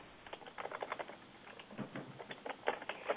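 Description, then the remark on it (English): Quick, irregular clicking of keys on a keyboard as someone looks up NCAA football records, a steady patter of soft taps with brief pauses, fairly quiet and heard alone with no voices. “I hear you typing.”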